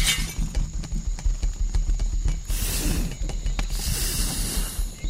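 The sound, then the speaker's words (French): A crown breaks apart with a bright shattering crash as a panicked elephant bolts, followed by scattered tinkling and crunching fragments over several seconds, loud, with no voices. “Pris de panique à la vue de la petite souris, l'éléphant part en trombe et casse la couronne.”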